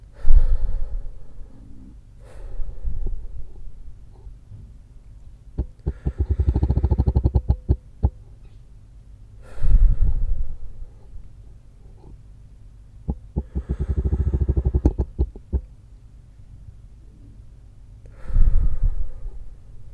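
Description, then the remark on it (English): Slow, deep breaths drawn in and let out in a steady rhythm, each lasting a couple of seconds, clearly audible with soft pauses between them and no talking; a person does a guided breathing exercise, inhaling along with taps on the wrist and exhaling between taps. “Now, inhale along with the taps on your wrist. Exhale between taps.”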